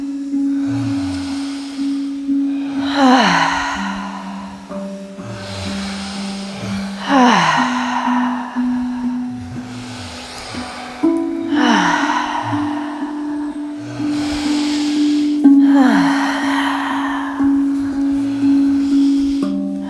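Rhythmic, forceful breathing repeats about every four seconds, each breath a loud airy rush, over a steady humming drone; many people seem to be breathing in unison.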